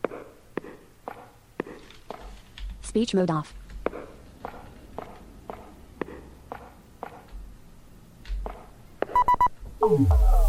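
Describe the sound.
Steady, evenly spaced footsteps of a character in the video game Pitch Black: A Detective's Demise, walking as the player holds the up arrow key, tap along in a regular rhythm, interrupted by bright electronic beeps and tones, with a synthetic voice speaking briefly.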